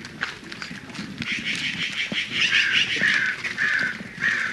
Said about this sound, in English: No, only some birds. There is crow.